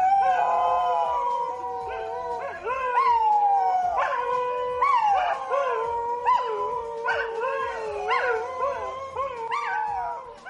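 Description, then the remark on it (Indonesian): Several dingoes, wild dogs native to Australia, howl together in a sustained chorus, long wavering tones rising and falling and overlapping one another, loud, with no talking. “Mereka jarang menggonggong, namun cenderung melolong.”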